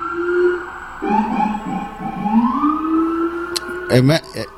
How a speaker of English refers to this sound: Why is that? What is that, a fucking ambulance or a police? I saw an ambulance and a police.